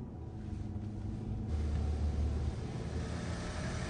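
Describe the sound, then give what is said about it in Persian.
A car's engine rumbles steadily, swelling slightly louder midway as the vehicle passes by, then easing back to a low, continuous drone. No voices are heard. “ماشینه رو دیدی؟ اون خل خیلی باید کودن باشه که اون ماشین رو برونه، چون خیلی خطرناکه.”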